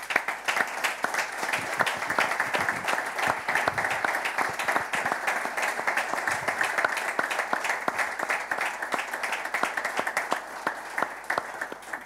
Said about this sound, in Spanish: me gustaría que le brindásemos todos un fuerte, emotivo y cariñoso aplauso como aliento a todo el pueblo asturiano que tanto está sufriendo.